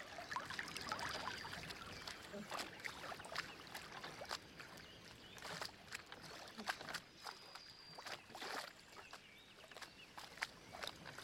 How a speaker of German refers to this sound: Und lasse mich über den See tragen. Kreuz und quer über das ruhige Wasser. Nur das Plätschern der Wellen.